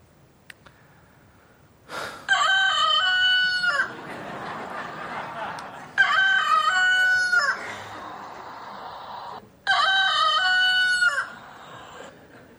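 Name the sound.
rooster crowing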